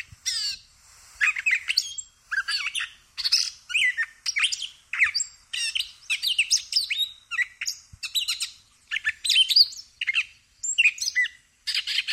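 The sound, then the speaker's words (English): A gray catbird sings a long, jumbled run of squeaky, scratchy phrases and mewing notes from a small, thick stand of aspen and shrubs in summer, each burst brief and separated by short pauses, fairly loud with no other sounds. “But occasionally we get the opportunity to see the source, which is a catbird, or a gray catbird,”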